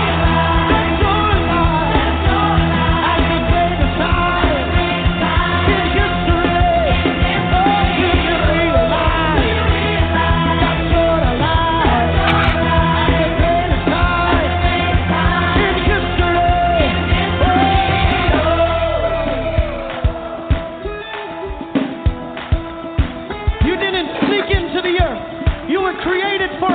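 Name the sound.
audience screaming and shouting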